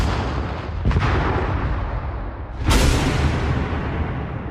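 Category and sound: sound effect, explosions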